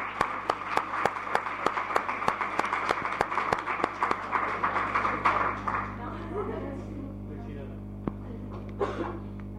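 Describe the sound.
Audience applause for a person seated in the front row, with sharp, fairly rhythmic claps ringing out loudly for several seconds, then thinning into scattered claps over a background murmur of voices.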